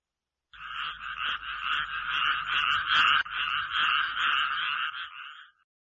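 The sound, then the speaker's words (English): A frog in a well croaks in a loud, continuous rapid trill lasting about five seconds, with a steady pulsing rhythm, and no voices present. “In the well, it heard a frog.”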